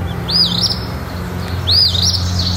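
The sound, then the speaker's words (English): An eastern phoebe, recorded in Waitsfield, Vermont, calls twice, each a short, buzzy two-part phrase about a second apart, clear over a low, steady background hum. “And this is the sound of a phoebe,”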